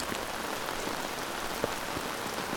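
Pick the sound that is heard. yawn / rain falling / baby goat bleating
rain falling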